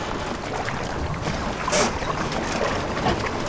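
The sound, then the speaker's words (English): A steady wash of water and wind noise surrounds a small, all-white, eight-seat sailing boat made of heavy plastic as it moves along, with a brief brighter splash or gust near the middle and no voices. “It's a sailing boat, all white, with 8 seats.”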